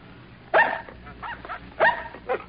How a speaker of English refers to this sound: A dog. He's got our scent.